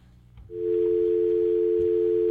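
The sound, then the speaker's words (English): A phone line picks up and a steady, unbroken dial tone hums continuously at a loud, even level, preceded by a brief click and low handling noise. “Get our phones working here.”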